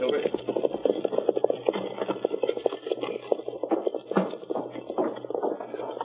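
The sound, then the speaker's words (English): Horses' hooves clatter in a quick, steady clip-clop as they pull a wagon away, with a rumbling rattle of wheels underneath, loud throughout. “Now, Parsons, take off that brake and start heading for the hills. Get up, horses.”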